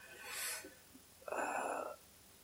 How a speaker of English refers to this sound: My day started bad, and sorry, I'm clearing my throat. I'm still sick.